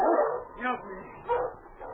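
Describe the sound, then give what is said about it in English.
A pack of sled dogs on a trail barks and yips in quick, excited bursts, their overlapping cries rising and falling over a couple of seconds. “He stopped and turned as he heard the dogs.”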